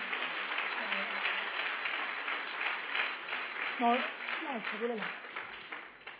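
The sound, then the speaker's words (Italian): An audience applauds loudly for Christ, a dense, steady wash of clapping lasting about six seconds, with a few voices whooping and cheering above it near the end. “Vogliamo fare un applauso forte a Cristo?”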